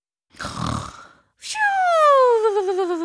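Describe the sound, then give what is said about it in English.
A voice imitates a snore: a rough, rattling inhale, then a brief pause and a long whistling exhale that glides downward in pitch, fairly loud. “The tongue snored.”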